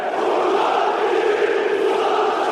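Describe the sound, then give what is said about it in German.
A dense, roaring football crowd chants and shouts continuously at high volume in a compact Turkish stadium with 52,000 spectators and a metal roof, a steady wall of massed voices with no pauses, heard from within the stands. “Also da kann man sich schon vorstellen, dass es sehr laut ist. Und zumal die Fans in der Türkei, glaube ich, an sich auch sehr laut sind.”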